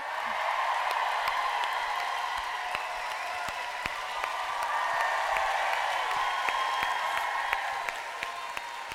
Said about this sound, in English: But you really love my mum. So shall we give her a huge, rapturous applause